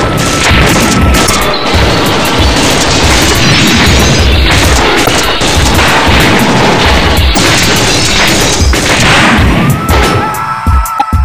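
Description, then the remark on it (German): A dense, relentless barrage of gunfire erupts in a shootout with pimps and dealers after a brief moment of silence, loud cracks and heavy booms overlapping without pause for about ten seconds before thinning out at the end. No voices are heard. “Nach einem kurzen Moment der Stille brach ein Sturm des Feuers los.”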